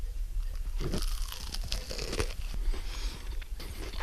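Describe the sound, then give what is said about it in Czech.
Chewing of a bread-roll pudding made with nuts, a little cinnamon, butter and salt, with soft crunchy bites and moist mouth noises repeating steadily for several seconds, no talking. “Tak já musím samozřejmě zkusit ten kousek, jak takováhle rohlíková hrudka.”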